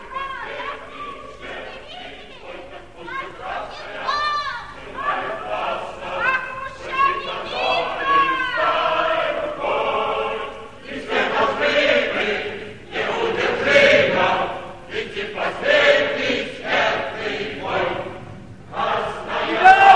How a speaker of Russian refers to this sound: Толпа народа во главе с Кошкиным и жигуловцами заполняет площадь.